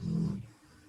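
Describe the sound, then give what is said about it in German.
A pet dog named Wolke, lying down and wiggling its ears, lets out a single low, rumbling snore lasting under half a second before fading into quiet breathing. No one speaks. “Das Schnarchen war gerade meine Wolke hier, die liegt hier und wackelt etwas mit den Ohren und macht gerade die Augen etwas schnarchend auf, weil ich ihren Namen gesagt habe.”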